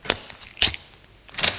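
A door being opened, heard as three sharp clicks and knocks of the latch and handle spaced out over a second and a half, with no voices.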